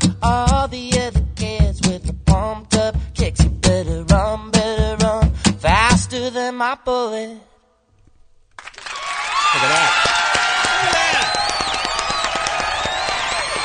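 Sung music ends, a short silence follows, then a canned crowd cheering sound effect played in the Kevin and Bean studio bursts in loudly, a dense wash of cheers and applause holding steady until the end.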